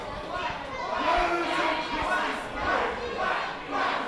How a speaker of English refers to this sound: And the crowd is still quacking. Crowd is getting quack crazy.